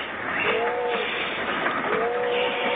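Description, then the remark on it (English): Steady rumble and hiss of a moving train bound for Chicago, heard from its dining car, with a faint whistle-like tone sliding by twice over the continuous rolling noise; no one speaks. “I love to eat on trains, don't you?”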